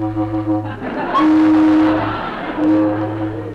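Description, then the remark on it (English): A loud, blaring car horn, the second horn tried, sounds in one long sustained blast, followed by a shorter honk, over a steady low engine rumble; it is honked to bring someone out at the Mountain View Auto Court. “They didn't hear it. Try the other one.”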